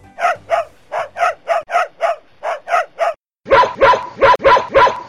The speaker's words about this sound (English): On a sunny Sunday afternoon, over 100 corgis gathered for the ultimate title, fastest corgi in Des Moines. Some of the dogs found the competition tough.